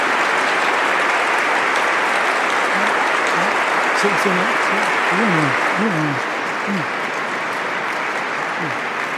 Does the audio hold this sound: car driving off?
no